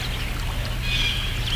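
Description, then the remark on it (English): Steady running water from a small babbling brook among autumn foliage on a sunny day, a continuous trickling and gurgling that holds at an even level throughout, with a low rumble underneath and no voices. “We're going to go to a babbling brook and appreciate these fall colors.”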